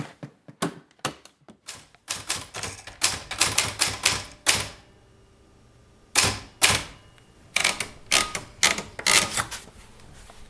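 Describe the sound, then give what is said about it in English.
A manual typewriter on a little kitchen table clacks away in uneven bursts of sharp keystrokes, stopping for a pause partway through before resuming its rapid tapping. No one speaks. “The typewriter sits on a little table in Tyler's kitchen.”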